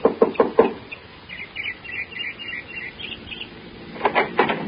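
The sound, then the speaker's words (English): Four quick, sharp raps on the door of a small house, then a pause filled with faint high chirping, followed by another short burst of knocks near the end. No one speaks. “I got her home address and knocked at the door of a small house 15 minutes after she arrived home that evening.”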